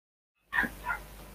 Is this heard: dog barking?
yes